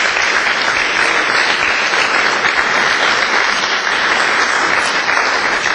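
Sustained audience applause, a dense, steady wash of many hands clapping at an even, fairly loud level for several seconds, with no voices standing out.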